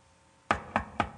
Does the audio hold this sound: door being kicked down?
yes